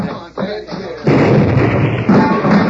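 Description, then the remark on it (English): A man speaks briefly, then a sudden loud explosive blast, set off with a fuse, blows a bank vault wide open and rolls on as a dense, rumbling roar of debris, swelling again near the end. “Blasted the vault wide open.”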